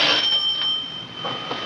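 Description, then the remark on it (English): A doorbell rings with a steady, high, buzzing tone held for the whole moment, broken by a few short rattly bursts, with no voices. “Doorbell's ringing, dear.”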